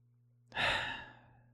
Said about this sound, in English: Breathing in.